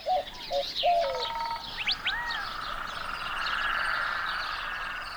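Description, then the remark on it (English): Frogs calling outdoors: a few short piping notes, then a buzzy pulsed trill and rising chirps, over a steady hiss of more calling. The calls are moderately loud, and no one speaks. “In the culture, the frogs are they're medicine people. They bring rain.”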